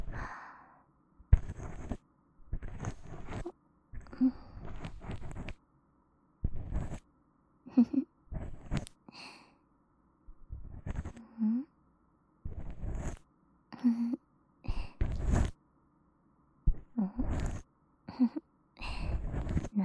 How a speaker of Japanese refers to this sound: もぞもぞしてどうしたの？吐息が当たってくすぐったい？我慢して。